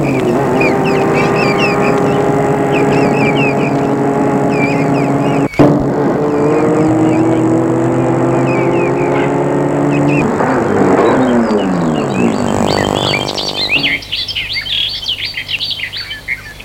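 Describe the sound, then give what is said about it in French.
A large white convertible car's engine hums steadily as it approaches along a road while birds chirp and sing all around, then the motor shifts pitch, slows, and cuts off as the car stops, leaving only birdsong. “Elle voit arriver sur la route une grande voiture blanche décapotable qui vient vers elle.”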